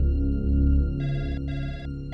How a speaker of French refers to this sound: Le téléphone de la police ne cesse de sonner.